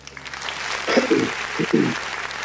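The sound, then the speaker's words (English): A steady wash of crowd applause on Reggae Global Radio, welcoming the station's Artist of the Month of December. The applause is dense and crackling, with two short voiced bursts of cheering rising over the clapping midway through. “Yeah, man, a whole heap of excitement and applause and thing”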